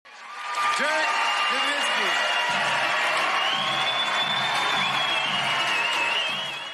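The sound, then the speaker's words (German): A large crowd in Symphony Hall cheers and applauds loudly and steadily as Dirk Nowitzki climbs the six steps to the stage at his Naismith Hall of Fame induction, with scattered shouts, whistles and whoops rising above the dense clapping throughout. “Im blauen Anzug, weißem Hemd und dunkler Krawatte ging Dirk Nowitzki unter großem Jubel die 6 Stufen hinauf zur Bühne der Symphony Hall der Naismith Hall of Fame.”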